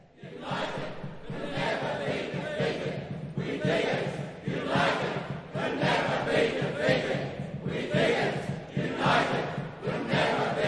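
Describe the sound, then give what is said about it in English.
An enthusiastic crowd in a 2008 recreation of the 1851 Monster Meeting of gold diggers at Forest Creek chants loudly, partly with chants from recent times. The chanting keeps a steady rhythm, with many voices rising together in repeated surges about once a second and a constant roar of voices between the beats. “This enthusiastic crowd is a 2008 recreation of the spirit of the Monster Meeting, with lots of artistic license and some chanting from recent times rather than the real meeting in 1851.”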